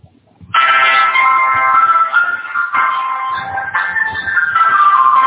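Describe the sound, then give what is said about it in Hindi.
A smartphone's power-off jingle plays as a newly unboxed phone with a SIM card inserted is switched off, a loud electronic melody of sustained tones that shift pitch a few times over about five seconds, with no talking. “इसमें मैंने खाली आपको दिखाने के लिए सिम कार्ड डालकर अनबॉक्स किया था तो अब उसको बंद किया जा रहा है फोन को।”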